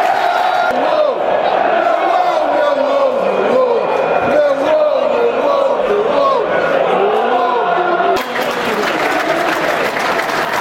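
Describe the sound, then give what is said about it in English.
A large football stadium crowd applauds steadily in the 59th minute, apparently for Ted Ayres, a Millwall fan who recently died; a dense wash of clapping with scattered shouts and calls rising through it, sustained and loud throughout, briefly dipping near the end. “Applause from the 59th minute, I think.”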